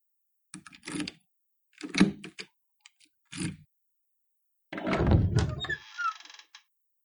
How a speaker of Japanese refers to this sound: 今、鍵を開けるね。